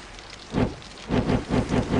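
Sea waves wash against a ship at sea in rushing surges, one swell followed by a quicker run of rhythmic splashes over a steady watery hiss, with no voices.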